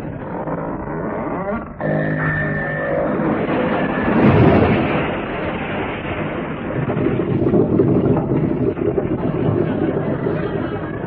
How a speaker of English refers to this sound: Look, the ship's moving down the slipway. She'll fall into the water. It's supposed to, actually.